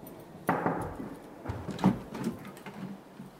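A door to the next room in a mountain hut is opened with a sharp clunk, followed by a few softer knocks and rattles of the handle and frame as it swings, with no voices.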